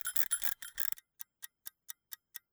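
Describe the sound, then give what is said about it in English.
A brief burst of rough, ratcheting clatter as a mechanical shower timer on the back of a toilet is wound for a shower of no more than 4 minutes, then the timer ticks alone, crisp, in a steady quick rhythm of evenly spaced ticks. “After supper, eager to wash off the grime and salt from the road trip and boat trip, I took a shower and dutifully set the timer.”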